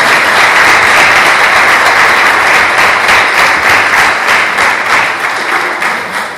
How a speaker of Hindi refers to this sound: खुदावंद आप सबको बरकत दे, जोरदार तालियां।